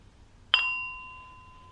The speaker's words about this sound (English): Going to ring the gong 3 times. When you've heard the 3rd gong, you can open your eyes and come out of the meditation.